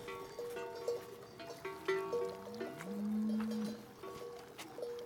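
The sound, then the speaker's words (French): Cattle bells clank and jingle irregularly in an overlapping cluster in the mountains, with a low drawn-out moo from a cow rising midway through. No voices. “Un son Madeleine de Proust, c'est les clarines dans la montagne.”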